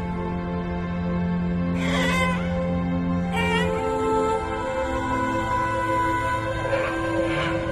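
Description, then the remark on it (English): Whale song: long, sustained moaning tones in a steady low drone, broken by a few rising, squealing sweeps that climb high in pitch, with no voices. “All the whales in each ocean sing the same song.”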